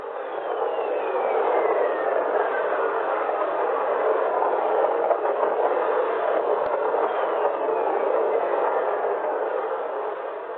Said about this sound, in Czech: A jak zní bouřka z Jupiteru?